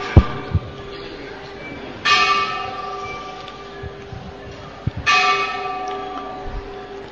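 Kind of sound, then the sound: signal or alarm, bell ringing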